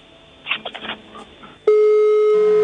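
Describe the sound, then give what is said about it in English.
A caller's phone line into a Lagos radio station crackles with faint muffled noises, then a loud, steady electronic on-hold tone cuts in abruptly and holds unbroken to the end, with no voices; the caller has put the station on hold. “The person put us on hold.”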